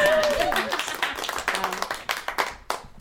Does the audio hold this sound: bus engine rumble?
no